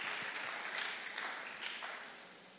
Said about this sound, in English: Clap your hands for Jesus, somebody here.